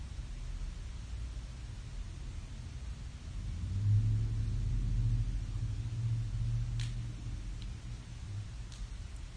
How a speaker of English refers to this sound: Everything is included in this space. The noise of the cars, motorcycles, sensations. You notice it's there and you just hold your awareness open.